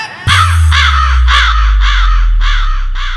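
A crow caws loudly and repeatedly, about six harsh, rasping calls in a steady rhythm, over a continuous low bass drone.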